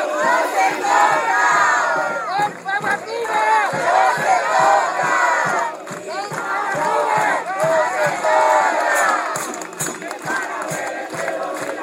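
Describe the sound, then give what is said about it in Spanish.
A large crowd of protesters in La Rioja, defending the Famatina mountain, chants loudly together, many voices rising and falling in a steady rhythmic cadence, continuing without pause throughout. “La Rioja se levanta en una sola voz, que defiende la custodia protectora del Famatina.”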